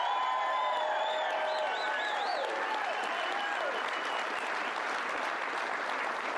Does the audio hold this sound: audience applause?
yes